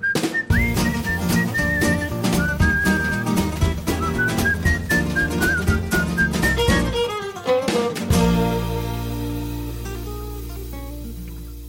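A bright whistled melody carries a lively tune over a full band with steady percussion, loud, before the music settles into a sustained, fading final chord.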